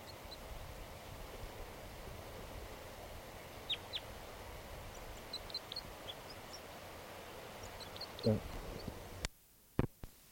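bird, crossbill flight calls

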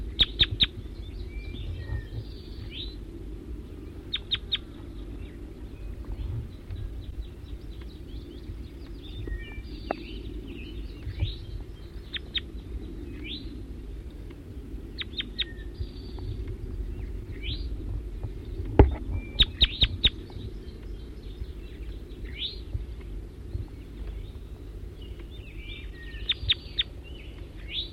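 bird, wild bird calls

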